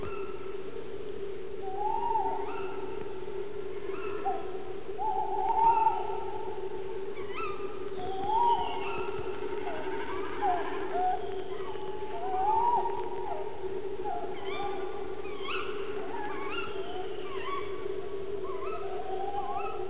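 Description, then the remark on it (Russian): Tawny owls call back and forth as it grows dark, a male's wavering hoots answered by a female's sharper cries, repeating every few seconds over a steady low background drone. “Перекликаются ночные совы неясыти. Это самец, а вот ему отвечает самка.”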